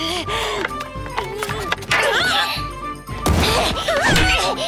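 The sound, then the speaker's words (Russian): A busy flurry of clashing sword strikes during fencing practice, with sharp impacts and bright metallic ringing. The clashes come in irregular, loud bursts, with some vocal sounds mixed in. “Если не будешь первым, уклоняйся от удара меча!”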